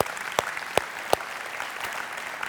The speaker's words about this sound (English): All right, could we just give a round of applause again to our preschool students?